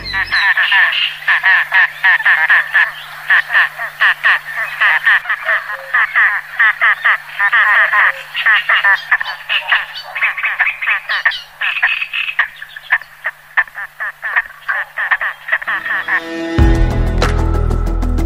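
A long run of rapid, harsh courtship calls from a grebe, a mallard-sized bird with ruby-red eyes and a long thin neck, loud, chattering and trilling almost continuously with a faint steady hum beneath, ending in a brief low rumble.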